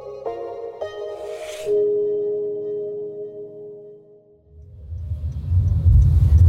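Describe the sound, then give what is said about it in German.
A sustained humming tone fades away, then a deep, low engine rumble swells up and grows louder, like riding inside a moving car. No one speaks. “nimm uns mit ins Auto”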